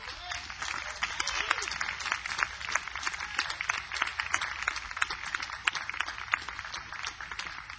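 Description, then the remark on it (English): An audience at a band's concert applauds steadily for about eight seconds, a round of applause for two musicians: a dense, crackling wash of many hands clapping at once, holding an even loudness from start to finish with no voices standing out. “Before I do, though, I want to have a tip of the hat and a round of applause for ….”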